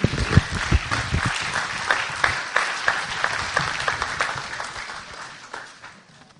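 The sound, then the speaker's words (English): A crowd applauds with dense, crackling clapping that starts strong with a few sharper claps early on, then gradually thins and fades over several seconds. “A big round of applause.”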